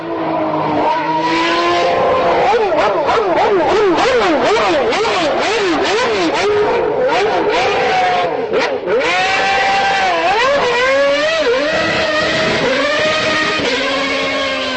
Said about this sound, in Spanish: Dentro de poco puede que el sonido de los motores de Fórmula 1 se convierta en algo más habitual en los televisores checos de lo que lo es actualmente.